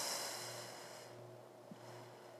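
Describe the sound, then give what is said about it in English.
A soft, airy breath pushed out through the mouth during a deep-breathing exercise, quiet, fading away after about a second and leaving only a faint steady hum. “Breathing in through our nose and out through our mouth for about 4 counts each.”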